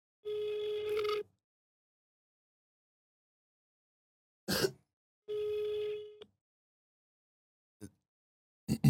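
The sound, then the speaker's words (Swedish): A phone line rings out with two steady, one-second ringback tones separated by a long silence, with a few brief clicks between and after them, on a call to the golf club shop in Luleå, Sweden. Nobody picks up and no one speaks. “Vi ringer shoppen och kollar.”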